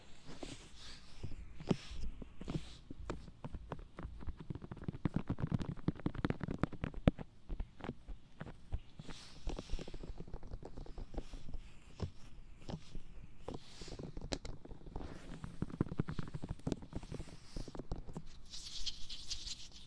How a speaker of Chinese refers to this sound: 那我先做最基本的耳朵按摩。